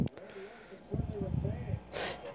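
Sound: dog sniffing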